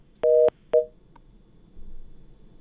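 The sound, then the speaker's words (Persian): Two electronic telephone line beeps after a listener's call to a Radio Azadi call-in show dropped, a longer tone followed quickly by a shorter one, both fairly loud and clear, then only faint low background noise. “بله، تماس شنونده ما هم قطع شد.”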